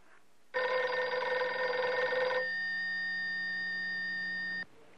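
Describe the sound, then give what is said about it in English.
A telephone rings with one long, loud electronic tone lasting about four seconds, harsh and buzzy at first, then settling into a steadier hum before cutting off abruptly. No one speaks. “Yeah, it's ringing.”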